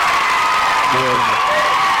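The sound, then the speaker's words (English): A canned crowd cheering and applause sound effect fills the whole two seconds; no crowd is actually present. It is a loud, dense, steady roar of clapping and voices, with a brief whoop rising out of the mix partway through. “the crowd's not actually here. Nothing canned about that.”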